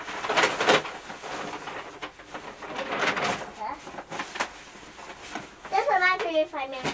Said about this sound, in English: You're making a lot of noise with that piece of paper